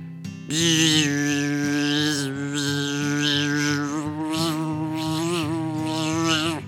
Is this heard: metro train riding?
no